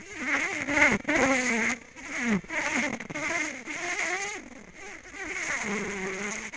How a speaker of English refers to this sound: Once they sense that everybody in that swarm cluster is warm enough to go in, to launch into flight, they make this signal called the buzz run. I think you might have an audio clip of that as well. And this is what it sounds like.